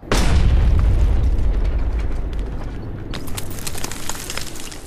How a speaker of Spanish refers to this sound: la tierra tembló. Una estruendosa explosión reventó los sensores de audio externos del traje. Un muro de polvo se abrió paso a la vez que la onda de choque pasaba sobre él. Llovieron escombros.